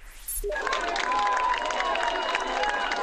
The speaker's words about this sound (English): You're listening to cheers as French rescuers made a miraculous rescue, pulling a teenage girl alive from the rubble 2 weeks after the earthquake.